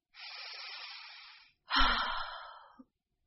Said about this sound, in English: If you are feeling nervous or stressed, a simple thing can help. A deep breath.